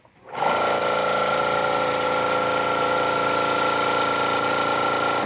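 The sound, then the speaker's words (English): A spray gun sprays paint in one steady, unbroken rush of hissing air with a faint high whine, starting abruptly and holding at an even loud level to the end, with no talking. “Yeah, that's him back there with a spray gun, isn't it?”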